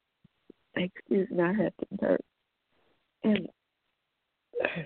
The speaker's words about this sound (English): Excuse me, I had to burp again.